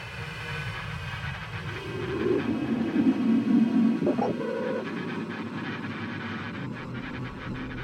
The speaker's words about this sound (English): The train crawls slowly towards Antwerp station.